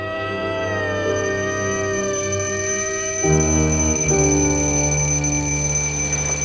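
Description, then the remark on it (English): A steady, bright ringing from an alarm clock in an apartment, waking a woman, carries on without pause, its bell-like tone holding at an even level and swelling slightly louder partway through, with no voices. “Therese is woken by her alarm in her apartment.”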